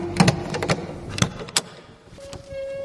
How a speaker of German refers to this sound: Nach einer Weile kommt Enes mit dem Schlüssel zurück und schließt Akamani das Gitter auf.